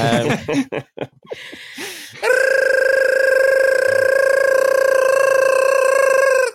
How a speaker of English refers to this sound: that's the gibberish alarm, which is getting more high-pitched every week. I think it's because I'm not very well. I think it's making this sound a lot worse than it actually is.